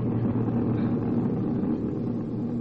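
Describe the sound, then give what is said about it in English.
A steady, loud engine drone hums continuously, a low rumbling roar like a propeller plane cruising in flight, 5,000 feet in the air and headed for Palm Springs, with no voices over it. “They are now 5,000 feet in the air, headed for Palm Springs.”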